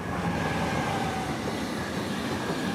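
A heavy freight train carrying military goods rolls steadily along the track from Merzig heading east, a loud, continuous rumble with a faint metallic whine from the wheels running through it. No one speaks.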